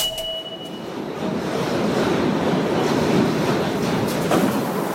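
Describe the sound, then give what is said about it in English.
A New York G train subway heading south to Brooklyn rumbles steadily along the tracks, a dense, continuous roar with faint rhythmic clatter and a brief high whine near the start, with no one speaking. “A lot of people who take the G train south to Brooklyn get off at stops that connect to Manhattan.”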